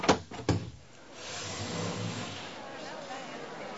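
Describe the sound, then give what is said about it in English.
The door to a temporary Senate hall slides open: two sharp mechanical clicks, then a soft rising whoosh that swells into a steady airy rush and lingers to the end. “Then they opened the door to the temporary Senate hall.”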